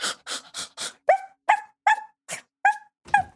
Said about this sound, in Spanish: Desafortunadamente, el perro ve a su dueño y se va ladrando.